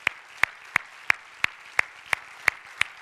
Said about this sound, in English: And so if we could, can we just give those who serve in these ministries a great big round of applause and thank you for what they do because they serve so generously among us.